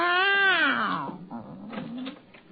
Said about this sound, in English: Meow. No, no. No, stay here, my beloved. They mustn't see you. Be very quiet. Very quiet.